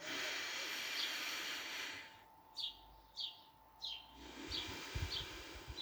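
A long, breathy inhale hisses as a deep breath is drawn in through the nose with the mouth closed, like a yawn, during a voice warm-up exercise; after a pause a second drawn-in breath follows, while birds chirp softly in the background.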